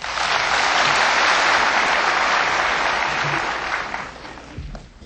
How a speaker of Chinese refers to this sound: 现在就请其弟子中的一位上台报告他跟无上师结缘学习观音法门的情形与心得，请大家以掌声鼓励。